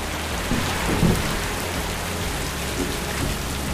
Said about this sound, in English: And as she did, suddenly, there was an unexpected downpour of rain. It rained so hard, she had to pull over.